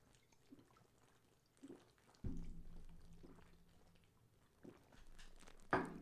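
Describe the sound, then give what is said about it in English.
Quiet slurping of an orange-juice screwdriver drink drawn through a straw from a sippy cup, with a few short gurgling bursts and a longer steady pull in the middle, and no talking. “Okay, so these guys are drinking it with a straw out of a sippy cup.”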